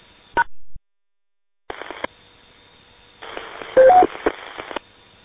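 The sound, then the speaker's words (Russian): Short electronic end-of-transmission (roger) beeps over a crackly, narrow-band radio channel: a quick tone burst near the start, then a longer stretch of radio static with a couple of tonal beeps around the middle. “Мужики, давайте без бипера в конце.”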